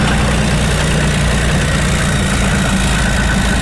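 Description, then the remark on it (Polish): A deep, steady engine rumble with strong low-frequency throb from heavy military vehicles, including MRAPs, idling and revving during a column-driving rehearsal for the Polish Armed Forces Day parade in Wesoła near Warsaw, Poland, loud and continuous with a broad noisy hiss on top and no voices. “Rykowi silników przysłuchiwał się tam dziś nasz reporter.”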